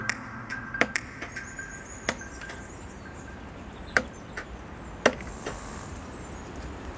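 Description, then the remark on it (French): Sharp, irregular knocks of a hammer driving nails into wood at a house being renovated in Dordogne, France. About ten strikes with uneven pauses, a few louder than others, over a faint, steady outdoor background with light bird chirps. “Des bruits d'oiseaux, des bruits de marteaux, des clous qu'on plante, la nature.”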